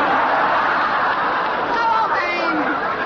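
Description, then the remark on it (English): A dense, loud mass of many men's voices yelling and shouting together in a continuous roar, with occasional higher cries rising above the din for about three seconds: some 5,000 kilted Scottish soldiers screaming as they charge through tall thistles. “5,000 kilted Scotsmen rushing through the tall thistles, screaming.”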